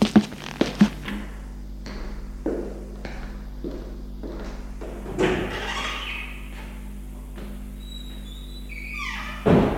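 door opening and closing

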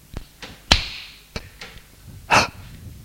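slap across the face

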